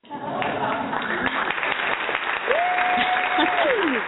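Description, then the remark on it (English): A show audience behind a door applauds steadily and loudly for about four seconds as the door is opened, a dense wash of clapping, with one long whistle cutting through near the end before sliding downward. “everybody is extremely happy that you're on the show with us tonight.”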